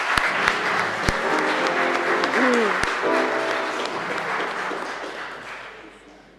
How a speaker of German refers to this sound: Lass uns Applaus geben.